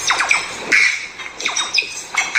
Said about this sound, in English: Tommy also says that he was visited by a white-throated magpie jay in Guanacaste, Costa Rica. What a sight, he says, and what noise.